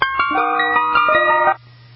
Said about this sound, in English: Well, it's time now to reveal the top 10 truck ice cream songs. Let's now start with number 10, ….